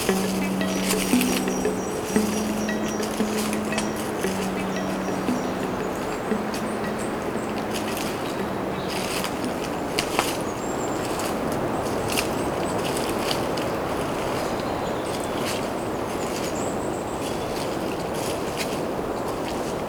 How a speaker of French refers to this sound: Le bruit de fond du vent.